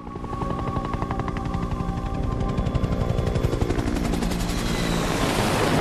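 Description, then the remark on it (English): A helicopter roars as it flies through the night, swooping low over choppy surf breaking on a rugged coastline, its rotor thumping in a fast, steady chop that grows louder and more pronounced, with a broad rushing wash underneath and no voices. “A CTU helicopter flies through the night, swooping low over choppy surf breaking on a rugged stretch of coastline.”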